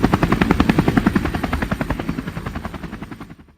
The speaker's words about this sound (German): Aber was ist das denn? Was ist das? Hört ihr das? Ist das ein Helikopter?